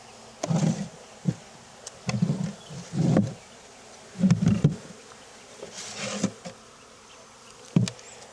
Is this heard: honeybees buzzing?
yes